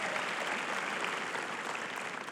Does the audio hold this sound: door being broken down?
no